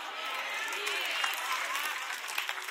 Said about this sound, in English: All the applause, just stop.